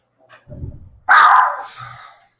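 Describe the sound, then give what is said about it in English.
A dog named Tiki lets out one loud, sharp bark that tails off over about a second, preceded by a softer low huffing sound. No one speaks. “sorry guys, I'm barking.”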